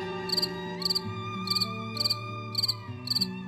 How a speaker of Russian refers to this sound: Маленький сверчок вздохнул, потер тихонько лапками под одеялом, и еле уловимый скрип послышался оттуда.